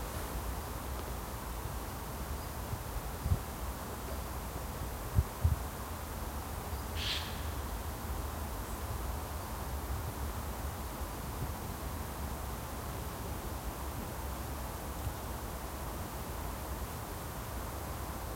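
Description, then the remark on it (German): A steady, unbroken rush of sea surf fills the whole recording, a soft hissing wash with a low rumble beneath. A couple of faint thumps and one brief high chirp break through, with no talking. “Das Meeresrauschen.”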